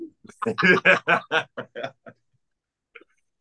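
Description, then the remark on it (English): A voice imitates a pterodactyl with an owl-like hooting call, a quick run of about eight close, voiced hoots that fade out, followed by a faint short sound near the end. “Yes, pterodactyls sound like owls.”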